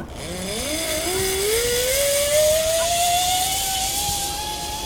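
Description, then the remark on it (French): A zip line trolley at Guildhall Park, north of London, whirs steadily along the cable, its whine climbing smoothly in pitch over a rushing, hissing noise. The sound stays loud and continuous, with no voices. “Vous, est-ce que vous allez crier dans la tyrolienne?”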